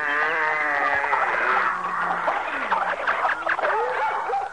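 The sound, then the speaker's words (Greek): A dense chorus of animal calls from pairs of every kind of animal gathered onto Noah's Ark, overlapping at once: barking, yelps, whines and bleating-like cries layered together, loud and continuous throughout with no pauses. “ένα ζευγάρι από κάθε είδους ζώο και πτηνού και αρπετού και πάσης ζώσης ψυχής και πάρτα μαζί σου. Πω πω και τι θόρυβο που έκαναν.”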